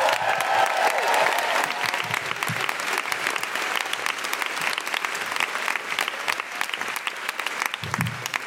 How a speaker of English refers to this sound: If you would, please, a round of applause. Welcome to the stage, the wonderful Deborah Frances White!